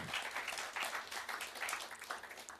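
A crowd applauds steadily, with dense overlapping hand claps forming a continuous wash of sound at moderate volume, heard from a bit of a distance with no one speaking.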